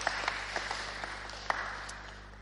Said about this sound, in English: Well done. Let's give him another big clap. He's a good chap. Well done.